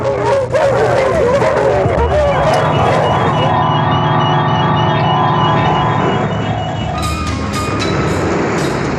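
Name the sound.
dogs barking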